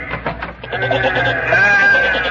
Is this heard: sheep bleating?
yes